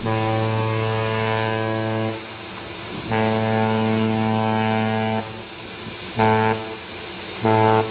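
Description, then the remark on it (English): A deep ship's horn blows two long, steady blasts, then two short ones, a loud droning tone with a low rumbling pitch and no voices. “Can you describe what a ship's horn sounds like in port or up close?”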